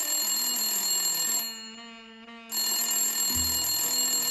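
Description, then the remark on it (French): A telephone rings with a bright, sustained electronic tone, briefly dropping to a softer pitch midway before the full ring resumes, loud with no voices. “Le téléphone sonne.”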